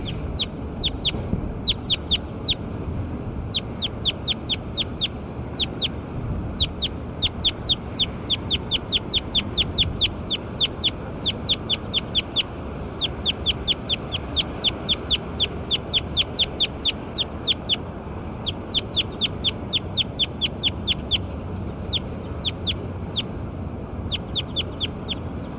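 A bird repeats short, sharp calls in quick, steady runs with brief pauses between series, clearly audible over a constant low rumbling background noise.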